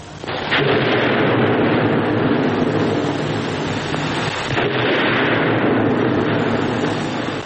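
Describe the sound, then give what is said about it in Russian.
Loud, continuous battlefield roar as Petka blows up an armored car with grenades and the Whites roll out a cannon: a dense rumbling barrage of explosions and cannon fire with a couple of sharper blasts standing out, no voices heard. “Отосланный вместе с Анкой, Петька возвращается и подрывает бронеавтомобиль гранатами. Но белые выкатывают пушку.”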